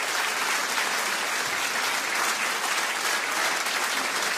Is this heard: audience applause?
yes